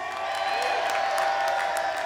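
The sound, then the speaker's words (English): A crowd applauds and cheers loudly and steadily for a crew member on the lights, dense clapping mixed with whoops and shouts that fill the entire short stretch without a break. “That was a great round of applause.”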